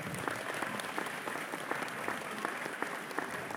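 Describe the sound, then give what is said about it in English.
A church audience applauds the church family for the questions they sent in, a steady wash of many hands clapping together with sharp individual claps poking through, sustained evenly for a few seconds. “Let's just applaud the church family real quick for the questions they've been sending in.”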